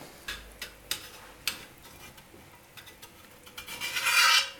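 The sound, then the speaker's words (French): A utensil scrapes leftover bits of earlier-cooked carrots and raisins from a saucepan in several short, rasping strokes, followed by a longer, louder grinding scrape at the end. No one speaks. “Oui, tu retires les petits morceaux qui traînent des cuissons d'avant, puisqu'on a cuit dans la même casserole les carottes, les raisins.”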